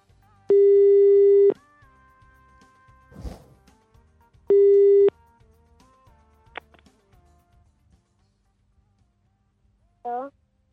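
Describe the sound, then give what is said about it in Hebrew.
Two loud, steady electronic telephone busy-tone beeps a few seconds apart after a phone call is hung up, with faint background noise and a brief chirp near the end. No one speaks. “אם היית אומר למישהו גם בלג בעומר כוחי תמיד איתי, מה הוא היה מנתק לך בפרצוף?”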